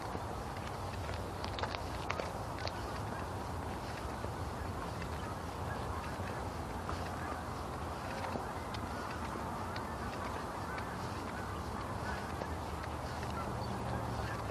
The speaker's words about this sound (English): There's some geese. A lot of geese. Flying over the pond down behind the supermarket.